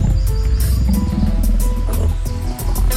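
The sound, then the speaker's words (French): Hungry wild cats, predators such as leopards prowling the hills of Bethlehem for a feast of sheep, roar and growl loudly, several deep, rumbling snarls overlapping continuously for a few seconds with no one speaking. “Des voleurs, mais aussi des prédateurs, rôdent bien intéressés par un délicieux festin de moutons. Ours, léopards, chacals, des fauves affamés.”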